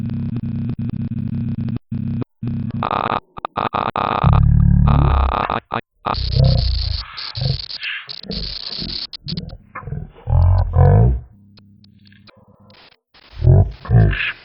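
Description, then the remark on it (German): A quirky movement sound effect plays over and over while the right arrow key is held down to move forward: low, buzzy, growl-like electronic tones and choppy bursts with a stepping pitch, starting and stopping repeatedly, loud and with no voices. “Man kann einfach die Pfeiltasten gedrückt halten und bewegt sich dann vorwärts und rückwärts, bekommt dazu aber diesen lustigen Soundeffekt, den man eventuell kennt.”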